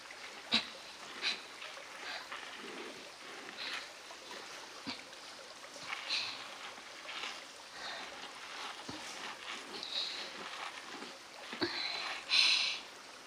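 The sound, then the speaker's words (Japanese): Soft, wet squelching and rubbing as plenty of body soap is worked into a lather on a person's body, a continuous swishing with occasional sharper slippery squishes, fairly quiet, with no talking. “私の体で泡立ててるのよ。”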